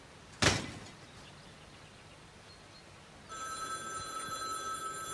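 A sharp thump sounds early on, then after a quiet pause a telephone starts ringing, a steady, bright electronic trill that continues to the end, loud, with no one speaking.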